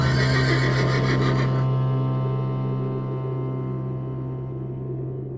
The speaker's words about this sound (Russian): И вдруг конь что-то учуял, уши навострил и заржал.